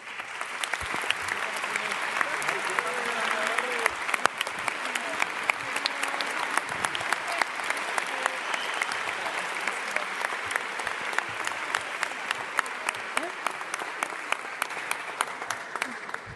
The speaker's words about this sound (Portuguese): E um forte aplauso para os nossos professores, porque sem eles nada disto era possível.